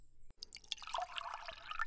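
A thin stream of water trickles and patters onto a seedling, with quick bright drips and splashes forming a soft, continuous dribble throughout, no voices.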